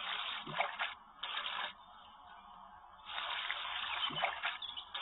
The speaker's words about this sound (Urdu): Number 6 پر ہے سیدھے ہاتھ سے 3 مرتبہ ناک میں پانی چڑھانا.